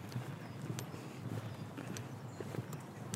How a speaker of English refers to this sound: Yeah, I can't hear any, you know, I can only hear my own footsteps. If I close my eyes, I'd think that there'd be only us two in this park and the birds.